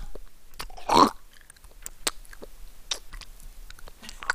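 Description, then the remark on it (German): Wet mouth smacking in an imitation of ASMR chewing, a burst of squelchy clicks with one louder smack near the start, then scattered softer smacks and lip clicks with no speech. “Wenn mir einer ins Ohr schmatzt, so eine Knistertüte aufmacht.”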